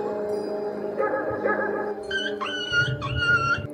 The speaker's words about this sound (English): And then he heard a sudden, distinctive yip.